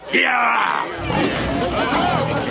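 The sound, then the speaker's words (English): A loud, drawn-out roar from a lion on a cart, shown off to a crowd, bursts out at the start, then gives way to a noisy crowd of people shouting and chattering. “Roll up, and see the king of the beasts. All the way from darkest Africa. Go on, you mangy old brute, give him a roar.”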